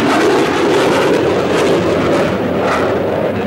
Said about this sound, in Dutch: Bij het ochtendgloren vliegen die starfighters laag over de